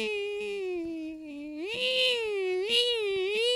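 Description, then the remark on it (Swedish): A voice imitates the whining tone that headphones pick up on a bus, rising and falling in time with the engine revs: a sustained nasal hum that dips, then swoops up twice in rising surges before settling, steady and fairly loud. “Så blir det typ att lurarna jamar i takt med hur motorn varvar.”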